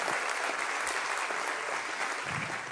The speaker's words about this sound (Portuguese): Vamos bater palmas, louvar, honrar o Senhor dos... Aleluia!